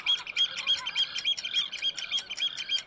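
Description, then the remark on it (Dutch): A seagull calls in a quick, steady series of sharp, shrill cries, repeating about three times a second, fairly clear, with no voices, during the roughly 14-minute ferry trip from Amsterdam Centraal Station to the NDSM wharf in Noord. “Kijk daar, een meeuw.”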